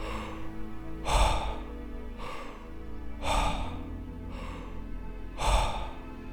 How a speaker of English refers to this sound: Double speed. Power breathing. Belly, chest out.